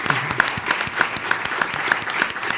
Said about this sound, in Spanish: Bueno, eso es Detrás del Audio. Creo que demos un aplauso, por favor. Y por favor, también que sigan escuchando el proyecto de Detrás del Audio.